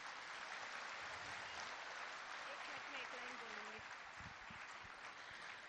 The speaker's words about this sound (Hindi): बहुत बहुत बहुत सुंदर इन कन्याओं ने आज का सुंदर नृत्य नाटिका की, जोरदार तालियां।